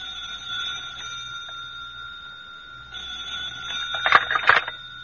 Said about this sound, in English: And then the telephone began its sharp alarm again.